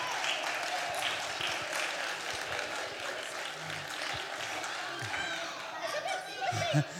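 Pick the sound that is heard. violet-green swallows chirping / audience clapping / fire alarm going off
audience clapping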